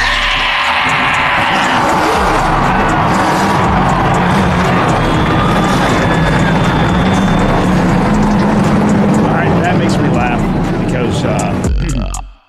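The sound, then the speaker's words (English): A dense, loud roar of several engines firing up and revving together, a deep rumble with rising whines, continuous for about twelve seconds over background crowd noise before cutting off abruptly. “And gentlemen, start your engine!”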